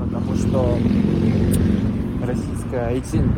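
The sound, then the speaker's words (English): Motorcycle engines rumble past on a street, a steady loud low drone throughout, with voices talking over the traffic noise. “At another moment, we could hear motorcycles rumbling past, like he was on the street, walking home.”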